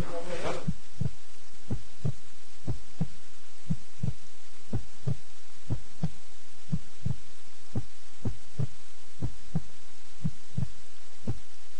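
Rapid, steady heartbeat thumps from a cardiac monitor tracking heart rate and blood pressure during a transcatheter aortic valve implantation at Al-Rasoul Al-Aazam Hospital in Lebanon, about two per second, repeating evenly over a faint constant hum after a brief burst of noise at the start.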